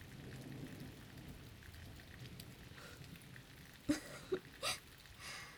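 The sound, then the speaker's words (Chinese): Steady rain hisses softly and evenly throughout, with a few sharper drip-like taps standing out near the end. No one speaks. “啊，既然雨一直下个没完，索性跑回家好了。”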